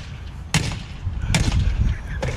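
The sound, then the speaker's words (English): Three sharp, loud impacts ring out about a second apart as a woman in Miami strikes a Range Rover with a hammer, each a sudden cracking bang over a steady low rumble. “There's a lady in Miami who just decided to attack a Range Rover with a hammer.”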